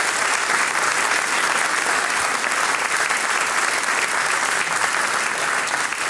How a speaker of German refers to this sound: Großer Applaus für Anita und ihre Mannen.